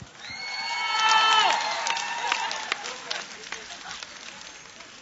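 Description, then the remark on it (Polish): A crowd claps steadily while voices whoop and cheer with rising and falling shouts, loudest in the first two seconds before the cheers fade and the scattered applause carries on, welcoming the sacred music ensemble Lumen. “Brawa!”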